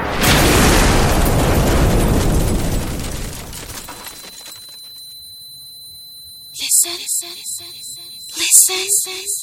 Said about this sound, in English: Explosion? Whose home was destroyed? Do you know the owner of the house?